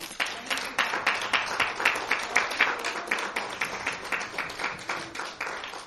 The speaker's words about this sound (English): Praise the Lord. Give the Lord another clap off.